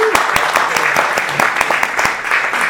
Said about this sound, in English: Tonight, we're thrilled to celebrate … again. Poets respond to 2024 election. So let's give a round of applause for that.